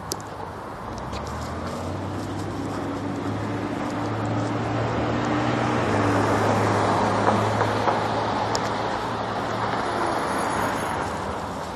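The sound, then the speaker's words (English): Steady roar of morning traffic at a busy road intersection, engines rumbling and cars passing continuously, swelling slightly as a vehicle draws near mid-way, with no one speaking. “Cars at this intersection this morning.”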